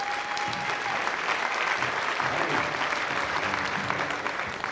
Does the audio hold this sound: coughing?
no